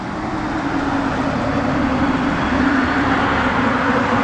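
A steady, loud roar of traffic racing past the sidewalk just outside Belleville General Hospital on a cold day, a dense rumbling wash of vehicle noise with no pauses and no voices.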